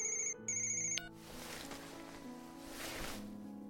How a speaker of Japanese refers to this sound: いいんだ、ソレイシスのメンバーからの電話だから。電話の内容ならわかってる。きっとリアル恋愛ゲームのことだから出なくてもいいんだ。